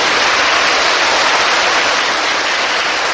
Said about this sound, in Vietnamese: Thân mến chào tất cả các bạn dễ thương tại chùa Hoàng Pháp. Cho một tràng pháo tay thật lớn nữa nào.